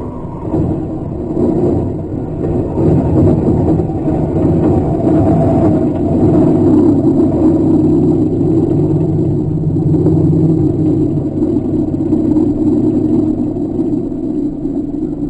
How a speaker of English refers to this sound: That night, about 9 o'clock, Sotaro's car stopped in front of the barn. At about the same time, a plane came down on the field nearby.